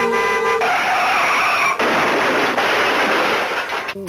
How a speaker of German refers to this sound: Das Auto bremst und man hört einen Unfall. Also wer das nicht lustig findet, der hat nicht gelebt.